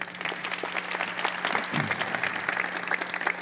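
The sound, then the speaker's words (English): A crowd claps steadily for a few seconds, dense overlapping applause at a fairly loud, even level with no voices breaking through, applauding students' project teaching balance skills, carried out in multiple countries. “Give them a round of applause for that.”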